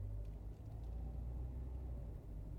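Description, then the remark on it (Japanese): A steady, low interior rumble of a car moving along a road as traffic thins after a heavy jam, continuous and fairly loud, with a droning engine hum and no voices. “私はね、常に両手ハンドルだから手はつなげないよ。”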